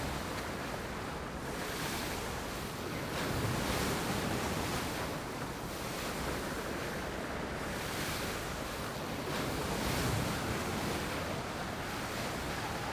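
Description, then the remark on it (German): Steady wash of ocean waves with wind rushing across the microphone, swelling gently every few seconds, heard from the bow of a large white sailing ship rising and sinking slowly in the water, with light spray splashing up. No voices. “Eine leichte Gischt spritzt auf, wenn sich das große weiße Segelschiff im Wasser behäbig auf- und niedersenkt.”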